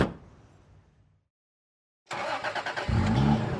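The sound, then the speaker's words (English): After a fading thud and a brief silence, the engine of a beat-up black-and-white police car cranks with quick rhythmic pulses, then catches into a loud, low, rumbling idle. “The beat-up black and white wakes up hard, and soon we're sailing down the dark boulevards.”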